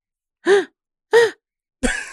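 A person gasps twice in quick succession, each a short voiced intake, then lets out a third breathier gasp; fairly loud, with no talking.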